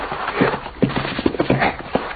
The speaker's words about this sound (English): The horses, boss.